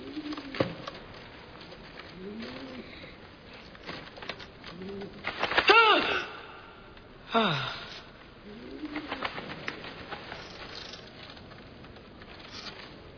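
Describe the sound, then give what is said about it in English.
A homing pigeon coos softly and repeatedly, low throaty calls every couple of seconds, broken midway by two brief bursts of rustling wing flutter. “It's a homing pigeon.”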